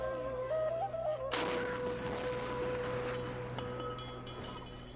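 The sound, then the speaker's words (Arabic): A single deep boom from a Ramadan iftar cannon, fired to mark the breaking of the fast, bursts out suddenly over steady outdoor background noise, its rumbling echo trailing off for several seconds, followed by a fainter secondary thud. “ابويا اخاف من صوت المدفع، عادي اسد دنيا؟”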